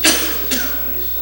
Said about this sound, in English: Excuse me. I can't hear you. I was coughing.